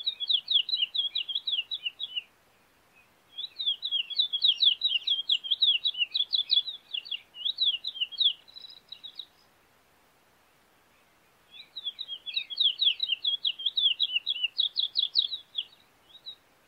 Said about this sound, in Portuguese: Vamos ouvir o curió.